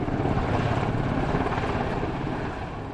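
A helicopter circles overhead above a house whose property was wrecked by a tornado, with a steady, pulsing rotor chop, loud and continuous throughout before easing off slightly at the end. No one speaks.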